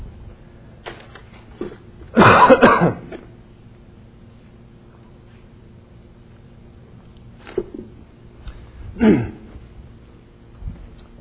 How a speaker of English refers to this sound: I believe I have one more cold coming on the heel of this one, so I have a tendency to cough.